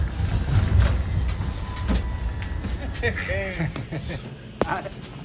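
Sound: metro train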